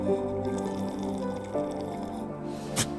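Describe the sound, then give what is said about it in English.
Green tea being poured or sipped: a steady liquid trickle with ringing, pitched tones, ending in a short sharp splash or slurp near the end. No one speaks. “That was my tea. That was my green tea.”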